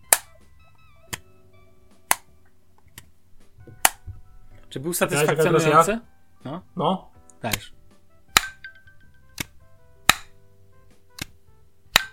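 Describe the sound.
An earbuds charging case lid snaps open over and over, about a dozen crisp, sharp clicks spaced roughly a second apart, with a short stretch of people talking in the middle.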